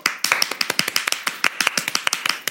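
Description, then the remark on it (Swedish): A short burst of applause from a small group: quick, uneven, sharp hand claps overlapping at a steady moderate loudness for about two and a half seconds, with no voices. “Vi måste göra en applåd för henne.”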